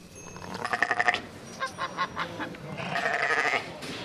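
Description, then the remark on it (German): Rare Swiss farm animal breeds, about 200 animals, bleating at a rare-breeds livestock show on the Bianco-Areal in Bruneck next to the A1 motorway, several overlapping nasal, wavering calls, some pulsed and goat-like, others honking, moderately loud with no speech. “Es blökt, muht, gackert und schnattert.”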